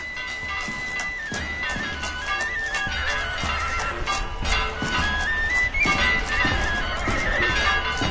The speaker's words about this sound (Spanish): El relincho de un caballo me anuncia que llegó el día.